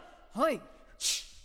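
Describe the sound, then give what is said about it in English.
A single two-part sneeze: a voiced, rising-then-falling intake followed by a sharp, hissy burst of breath, fairly loud and over in about a second. “Gesundheit.”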